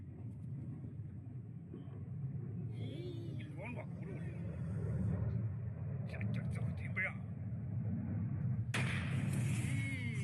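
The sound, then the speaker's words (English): A heavy, continuous rocket rumble roars throughout as a launched rocket falls back, then a sudden loud explosion bursts near the end, followed by a crackling, hissing wash of debris. “Big explosion.”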